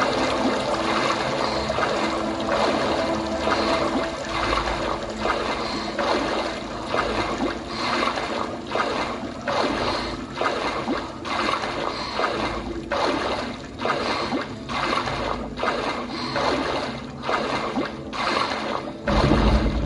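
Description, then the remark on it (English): In a video game, water drips again and again at a fairly steady pace, each drop a sharp little splash over a dense, continuous background of running water and ambient noise. No one speaks. “I love the atmosphere in this game, the music, the dripping water, the sounds, it's absolutely fantastic.”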